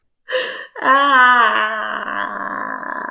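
A short gasp, then a drawn-out, whiny moaning wail from a single voice, wavering in pitch and holding steady for about two seconds without any words.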